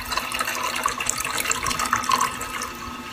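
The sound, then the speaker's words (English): Stolichnoye ginger beer pours steadily into a glass, a continuous splashing and fizzing stream that holds at an even level for a few seconds with no talking. “Then I pour it.”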